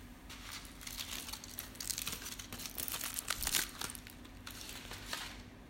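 Crisp crinkling of tin foil wrapping paper around a thin block of chocolate as its edges are folded down, a steady run of small rustles and sharp crackles lasting several seconds with no voices, over a faint low hum.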